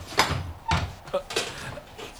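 Several heavy footsteps thud at an uneven pace, four or five solid impacts with a short ring after each, moderately loud, approaching.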